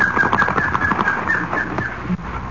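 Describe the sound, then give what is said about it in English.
A bird named Nicoma takes off and flies away into the woods, a busy flurry of flapping and bird chatter filling the scene, steady, with no voices. “Fly into the woods.”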